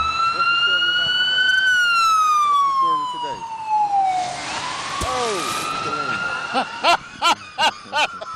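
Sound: ambulance siren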